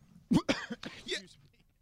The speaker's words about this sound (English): Excuse me. I get it. Hold on, I got a cough.